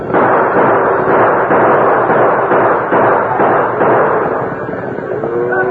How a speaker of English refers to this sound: Right close to the leaders. Use your guns. I'll do the same thing. Noise will make them swing east before they reach the creek.